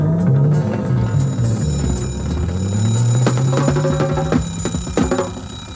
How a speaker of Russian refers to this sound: Но не спит будильник, а звонит, коварен, как бандит, без нервов всегда стреляет первым.